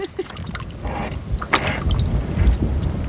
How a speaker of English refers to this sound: At first, the instrument floats, but it gradually fills with water. It's gonna drop pretty quickly here.